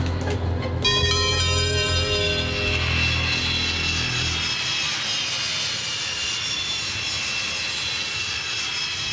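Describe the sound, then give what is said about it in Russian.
A steady, loud airplane engine drone fills the cabin of a passenger flight from Saint Petersburg to Donetsk that is changing course for an emergency landing, with a low rumble and layered tonal whine that shift slightly before settling into a constant roar; no one speaks. “Наш самолет, следовавший рейсом Санкт-Петербург-Донецк, меняет курс и совершает вынужденную посадку в аэропорту города Пуэрт-Нуар.”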